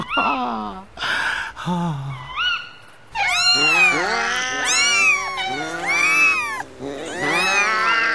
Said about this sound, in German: Und später werden die Katzen und Kater ein großes Konzert für uns geben.